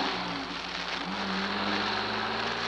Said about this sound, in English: The sound of the rain, the drone of the motor, vanished somewhere in my senses.